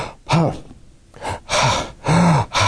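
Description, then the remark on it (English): A voice imitates a patient's labored, heavy breathing: a series of loud, strained gasping breaths in and out, repeated in a rough rhythm with brief pauses between them. “She was breathing really, really hard.”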